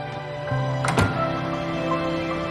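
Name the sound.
door opening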